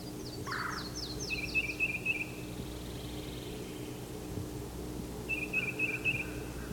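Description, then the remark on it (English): A yellow-throated warbler sings a quick descending series of clear, high whistled notes, followed by a separate twittering trill that repeats later, all over a steady low background hum. “There's the yellow-throated warbler.”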